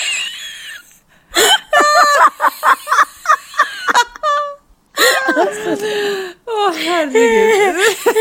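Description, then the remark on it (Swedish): A long, loud, croaking burp with a wavering pitch, from someone drinking sparkling wine, stands out among bursts of breathy, giggling vocal sounds and gasps. “Men fan, du rapar ju som en hel kar.”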